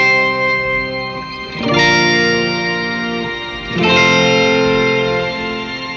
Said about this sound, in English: So I kind of have a shimmer reverb effect. Okay. In conjunction with this pog.